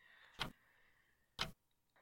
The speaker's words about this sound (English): The only sound allowed to echo through its halls was the creaking of old wood and an old clock forever chiming. Can you imagine that? The sound of a clock singing on repeat.